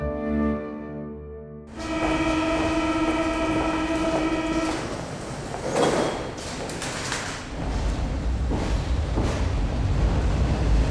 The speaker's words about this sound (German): Mit der U-Bahn.